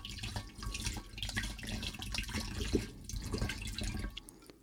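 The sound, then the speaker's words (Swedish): Baptismal water pours steadily into a baptismal font, a continuous splashing trickle with small drips and gurgles, fairly loud, with no voices over it. “Och som en liten symbolisk handling nu så häller vi upp dopvattnet i dopfunten.”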